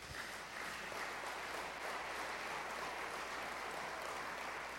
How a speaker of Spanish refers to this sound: ¿Cuántos le pueden dar un aplauso al Señor?